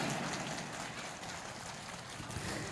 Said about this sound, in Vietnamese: Xin toàn thể các quý Phật tử dâng cao tràng pháo tay để chia sẻ niềm vui trong buổi Phật đản này.